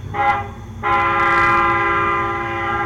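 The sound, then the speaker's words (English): A train whistle sounds in two blasts, a short one followed by a long sustained one, loud over the low rumble of a passing train. “Have some more whistles in here.”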